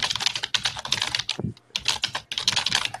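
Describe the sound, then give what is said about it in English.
Rapid, relentless typing on a computer keyboard: dense bright clacks rattle almost without pause, broken only by a couple of brief gaps, loud and alone with no voices. “What is this man doing to his keyboard?”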